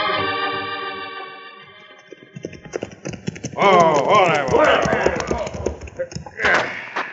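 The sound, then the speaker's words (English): Horses' hooves clip-clop in a rapid, uneven patter that builds from faint to loud as they draw near, mixed with a harmonic tone early on and later busy overlapping noise. “Then we'll get our guns and our horses and ride to help Senor Maxwell, if we are not too late.”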